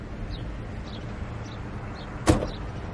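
A car door shuts with a single solid thunk near the end, as a passenger is let into the car, over a steady low outdoor rumble with faint bird chirps.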